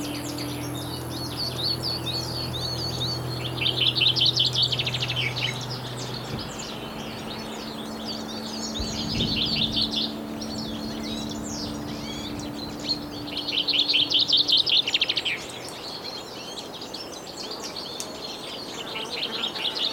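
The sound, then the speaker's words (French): A chorus of birds sings continuously in a high-altitude fir forest above a village, with bursts of bright, trilling song from one bird every few seconds over a faint low hum in the background. “Le bal des oiseaux entre les sapinières.”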